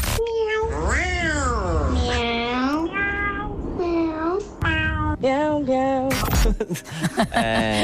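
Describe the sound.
A person imitates a cat, letting out a string of loud, drawn-out, wavering meows and yowls, one after another with brief pauses, and no other talking.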